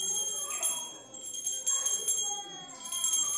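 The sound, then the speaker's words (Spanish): A small golden handbell, slightly larger than a hand, is shaken during a Catholic Sunday mass at the consecration, in quick bursts, producing a bright, high, shimmering ring that sustains continuously between pulses, swelling at roughly one-second intervals. “con soltura practicada, agita una campana dorada que es un poco más grande que su mano”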